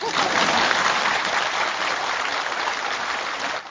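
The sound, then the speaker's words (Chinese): A crowd breaks into steady, sustained applause, a dense wash of many hands clapping at once that stays loud throughout before tapering off slightly at the very end. “能不能扔掉？不鼓掌啊！”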